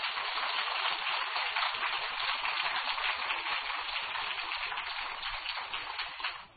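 A crowd applauds steadily, a dense crackle of many clapping hands that holds at an even level for several seconds before tapering off at the end. No voices are heard.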